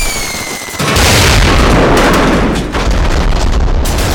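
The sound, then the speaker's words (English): A loud explosion sound effect erupts after a brief tonal lead-in, followed by a sustained roaring, rumbling blast with crackling debris that stays intense for several seconds. “Hit the deck and take cover from earth-shattering, ear-splitting explosions.”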